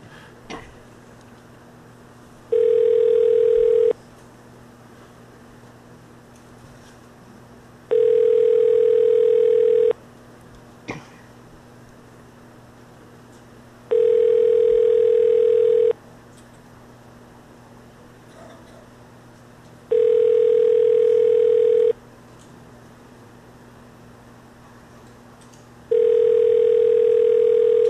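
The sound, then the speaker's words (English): An outgoing phone call rings out over and over without anyone picking up before going to voicemail: five evenly spaced ringback tones, each about two seconds long, with pauses between them and a faint hum underneath. “I hope this one doesn't answer just so I can tell you what the name is.”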